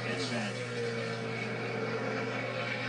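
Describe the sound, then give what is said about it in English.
A steady, continuous engine drone hums throughout, with a few tonal lines that briefly shift in pitch early on, like race car engines roaring during qualifying under a busy background. “I love the sound of those engines.”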